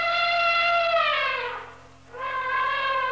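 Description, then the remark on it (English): A loud elephant trumpet: a sustained brassy blare that slides downward and briefly cuts out, then resumes on a steady pitch. No voices are heard. “I'm not sure I want to ride that elephant.”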